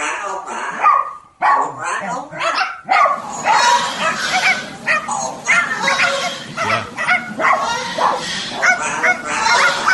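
Several dogs bark over and over, loud, their overlapping yelps forming a dense, nearly continuous chorus with a harsh, honking edge that lasts the whole stretch.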